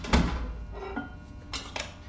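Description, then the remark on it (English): A basement door thuds shut with a dull, heavy knock, followed by a few lighter metallic clicks as it is locked. Fairly quiet, set against a low background hum, with no voices. “The basement door closed too. Locked, by the sound of it.”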